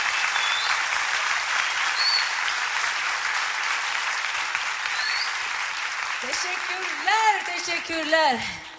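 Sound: audience applause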